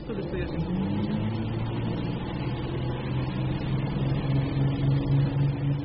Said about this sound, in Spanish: Cerré los ojos para no seguir escuchándolo, hasta que el zumbidito del camión me arrulló.